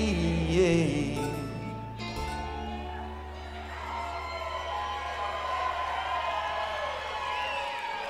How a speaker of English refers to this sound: Y'all are hooting and hollering because you know what's coming, don't you? That's right, this is the sing-along part.